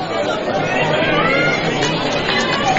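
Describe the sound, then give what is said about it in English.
Steady crowd chatter fills Sanders Stadium at a baseball game as the crowd pours in, a dense babble of many overlapping voices at a constant, fairly loud level with no single speaker standing out. “As the crowd continues to pour in here at Sanders Stadium”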